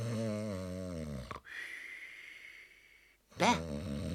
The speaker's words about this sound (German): Hör endlich zu schnarchen auf, ich schnarche nie, nie. Du darfst nicht Sachen tun, die ich nie tue. Und außerdem, wenn ich schnarche, dann schnarche ich viel schöner.